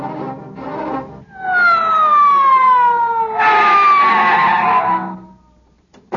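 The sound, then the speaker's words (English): A loud police squad car siren wails, its pitch gliding steadily downward over a few seconds before cutting off, with rumbling vehicle noise underneath and no one speaking. “All right, men, get out the squad car.”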